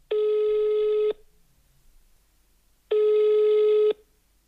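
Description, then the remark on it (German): Two long, steady telephone ring tones sound alone, each lasting about a second with a pause between, as a call to a bicycle shop in Cuxhaven rings before an AI assistant answers. “Du erreichst mich, weil alle meine Kollegen gerade nicht ans Telefon gehen können.”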